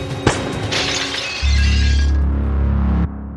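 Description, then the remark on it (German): Dinner dishes being cleared away shatter with a sharp crash, bright clinking debris spilling over the next second, then a loud, heavy low rumble swells and holds before cutting off abruptly. No voices. “Sie steht direkt vor ihm, räumt gerade das Geschirr des Abendessens ab.”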